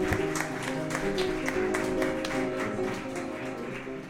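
Steady clapping from a group runs the full four seconds, a dense patter of sharp hand claps over a sustained tonal musical hum, with no one speaking.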